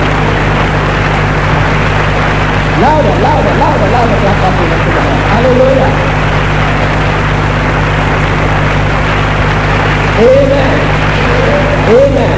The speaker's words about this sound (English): I want us to stand up, give Jesus a very good clap offering. Jesus is Lord. Hallelujah.